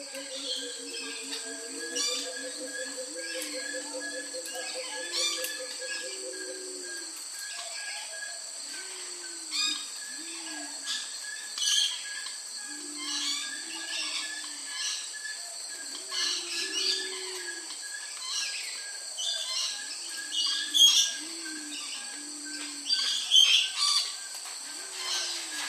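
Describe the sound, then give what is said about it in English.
A chorus of birds calling in the biggest walk-through bird aviary in the Southern Hemisphere, on the Monsoon Forest Walk at the Territory Wildlife Park: repeated low cooing phrases, scattered squawks and chirps over a steady, shrill insect drone, with no one talking. “And also the biggest walk-through bird aviary in the Southern Hemisphere.”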